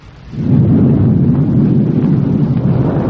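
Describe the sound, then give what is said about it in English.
A deep, rumbling liftoff roar of the Project Far Star rocket swells up within the first half second and then holds as a loud, steady, crackling low-pitched thunder with no voices. “Here we go. Liftoff. We have a liftoff.”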